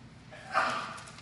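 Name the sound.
sneeze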